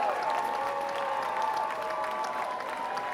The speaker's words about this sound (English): Get a round of applause for the ugly suit people. They were pretty badass. We're going to miss those guys.